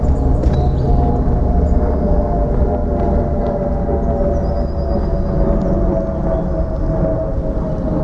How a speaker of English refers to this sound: That aeroplane is so loud. We must be on the flight path.